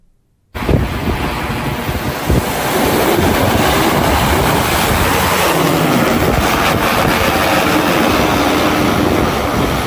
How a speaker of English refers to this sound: I can hear the drones burr as they take off and land at the launch pad. Here it is.